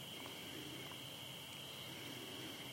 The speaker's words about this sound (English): You say, I can't meditate with all these crickets. But that would be stupid. The crickets can be in the background, they can do their thing.